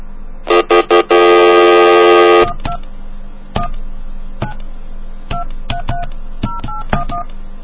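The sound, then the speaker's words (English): A touch-tone phone number being dialed: a few loud bursts and a long harsh tone, then a string of short keypad beeps at an uneven pace, clear with no talking. “let's try this number Mute gave me real quick”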